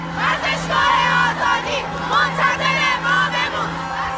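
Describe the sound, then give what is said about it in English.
In one corner of a stadium, female fans packed into the seats scream, chant and wave flags. Their high-pitched voices form a loud, continuous wall of sound, with individual shrill cries rising and falling throughout. “In one corner, female fans packed the seats, screaming and waving flags.”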